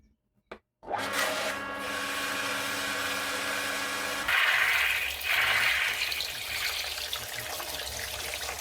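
After a brief click, as a pump on a smart water barrel is switched on by a Wi-Fi socket, water gushes out steadily with a low motor-like hum underneath, shifting partway through into a brighter, splashing pour that continues to the end.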